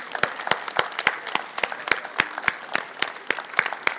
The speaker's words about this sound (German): Applaus für alle.